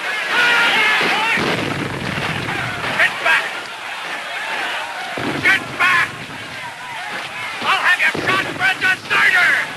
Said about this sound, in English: As Henry races across a field, shells explode to his left and right, spraying earth high over his head.